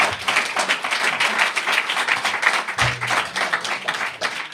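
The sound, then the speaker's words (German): An audience applauds the first round of arguments, a steady, dense patter of many hands clapping for several seconds at an even, moderate loudness with no voices over it. “Damit ein kleiner Applaus für die erste Argumentationsrunde.”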